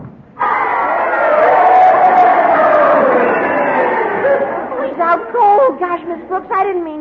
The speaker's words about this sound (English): This is the way the crowd wanted it to end. You heard them cheering, didn't you?